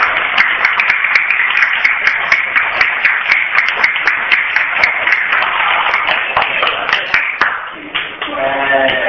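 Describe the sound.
Warm audience applause, a dense steady wash of many hands clapping at full volume, with a voice surfacing briefly near the end as the clapping thins.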